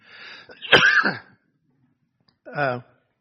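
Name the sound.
throat clearing and coughing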